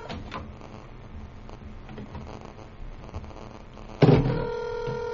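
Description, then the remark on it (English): A cell phone call being placed: soft dialing clicks over low background noise, then a sudden loud, steady ringing tone takes over for the last second, clear. “Call him on the cell.”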